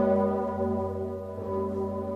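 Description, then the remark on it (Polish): The large Sigismund Bell of the cathedral in Kraków, Poland, tolls to announce the death of the city's former metropolitan archbishop, its deep, layered resonance ringing steadily and humming on without a break. It is fairly loud and sounds alone, with no voices. “Dźwięk dzwonu Zygmunta oznajmił krakowianom, że były metropolita zmarł.”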